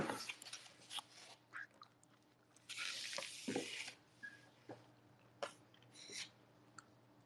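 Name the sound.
person chewing food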